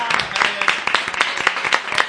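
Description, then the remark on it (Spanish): An audience claps steadily, many hands blending into a dense, continuous burst of applause, with a few sharper claps standing out, welcoming an arriving guest. “Fuerte el aplauso”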